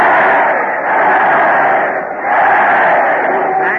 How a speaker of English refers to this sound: Look at that crowd. They're giving three cheers for Fred Allen. Yay!